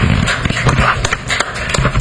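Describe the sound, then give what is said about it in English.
A small debate audience claps steadily for about two seconds to vote for the side that did the better job, a dense patter of overlapping hand claps at an even, fairly loud level, with no voices standing out. “Well, I know we have a small audience, but let's go ahead and vote by applause.”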